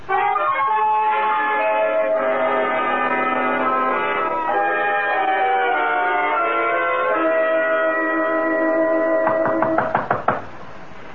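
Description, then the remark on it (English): Sustained organ-like music plays, then near the end a quick series of about five or six sharp, loud knocks on a door cuts in. “Who knocks at my gate?”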